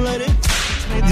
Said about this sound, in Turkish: Nereden çıktı bu kırbaç? Bundan sonra tarzım bu.